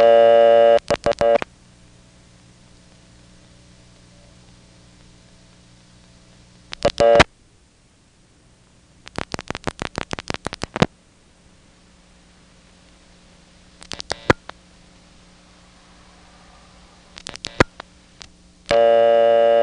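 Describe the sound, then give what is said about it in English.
A call on a telephone coin line, flashed with an extra 3 first, with bursts of clicking and squeaking from exchange relays, separated by quiet stretches of hum, and steady tones at the start and end. “I'm including this call because the relay's kind of squeaked funny this time in a way that sounds different from previous calls.”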